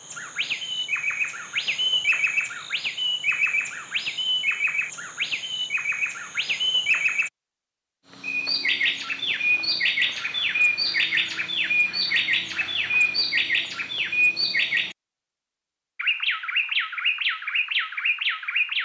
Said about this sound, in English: Now they're going to sing together. This is called an antiphonal duet, except now we've separated their songs.